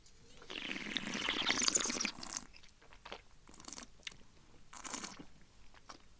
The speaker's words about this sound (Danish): Og den lyd, du kan høre, den der slurpelyd, der er nogen, der synes, det er pisse irriterende. Det kan også være røvirriterende at lytte til. Ja. Men når du har vinen ind i munden, så prøv at suge noget luft ind. Det giver lige, det ilter lige vinen.